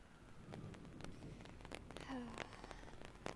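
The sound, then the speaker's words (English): Soft, steady rain patters down with scattered sharper drop impacts across a broad hiss. It sounds fairly quiet, and a brief faint tonal chirp rises through it midway. “The sound of the rain is nice.”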